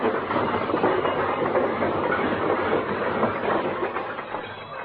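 A sound-effects avalanche of objects crashing out of Fibber McGee's overstuffed closet as the door is opened, a loud, sustained, dense clattering and banging jumble that rumbles on steadily for about five seconds before easing slightly, with no voices.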